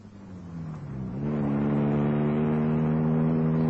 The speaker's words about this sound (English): I got in my car and drove at a high speed. I didn't know where I was going. I just drove.